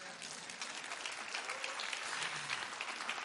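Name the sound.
audience clapping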